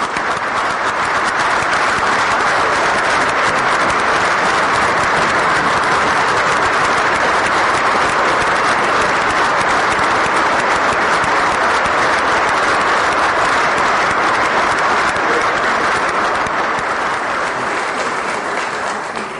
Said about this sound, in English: let's give them applause.